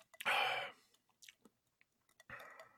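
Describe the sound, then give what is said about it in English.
Sips of a bottled Jose Cuervo pre-mixed margarita: a loud slurping draw, a pause filled with faint lip and swallow clicks, then a second slurp. No one speaks. “Oh, he's going back for another sip.”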